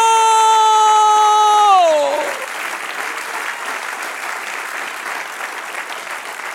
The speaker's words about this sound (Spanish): Dale un aplauso al que... ¡Santo!